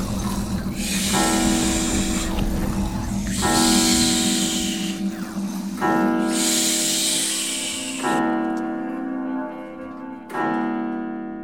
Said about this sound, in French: Lorsque le loup eut apaisé sa faim, il se recoucha, s'endormit et commença à ronfler bruyamment.